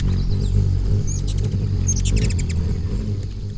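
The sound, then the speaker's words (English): A ruby-throated hummingbird whizzes by in late April in the Northeast, hovering by scarlet flowers: a steady low whirring hum runs throughout, broken by two quick bursts of thin, squeaky high-pitched chirps, with no voices. “A tiny bird just whizzed by like a bullet.”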